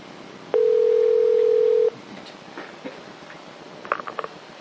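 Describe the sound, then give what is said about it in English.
A telephone line gives one long, steady ringing tone lasting over a second, then quiet clicks and a few short faint beeps follow, as if the call connects, as Lug Radio phones a guest from KDE. No one speaks. “It's Lug Radio calling.”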